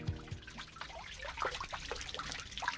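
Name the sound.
flowing water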